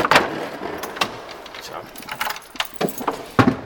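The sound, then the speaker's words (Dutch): A key scrapes and clicks in the lock of a small hatch on a non-electronic organ, followed by a few sharp metallic knocks and rattles as the hatch is worked open, with faint background noise. “Luikje openmaken. Moet ik even kijken, dan moet hier ergens een sleutelgat zitten.”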